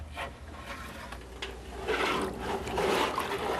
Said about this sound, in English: For this djembe drum, I use a goat skin. And I soak this skin in water till it gets real soft so that I can mold it onto the shell of the drum.